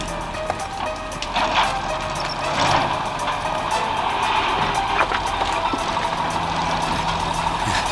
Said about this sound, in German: Schon als sie vor dem Tor parkten, hörten sie das durchdringende Quietschen der Autopresse.